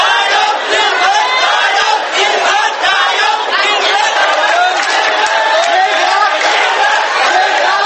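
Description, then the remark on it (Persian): A large crowd of Thai red-shirt supporters of the Pheu Thai party roars and shouts victory cries on Sunday, many voices overlapping in loud, sustained cries, a dense, unbroken wall of jubilant noise with no pauses. “سرخپوشان تایلند که سال گذشته پس از ضرب و شتم نیروهای دولتی و تخریب چادرهایشان در مرکز تجاری بانکوک مجبور به عقب نشینی شده بودند، روز یکشنبه فریاد پیروزی سر دادند.”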